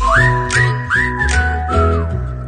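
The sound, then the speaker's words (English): The doorbell at Kris Jenner's home, the Kardashian compound in Calabasas, plays a short whistled melody when the front door button is pressed: four sliding, sustained notes over a steady low tone, rising and falling in a sing-song phrase, played alone without any talking. “I found something out this week, and this is the truth, that Kris Jenner had that turned into the doorbell at their home in Calabasas.”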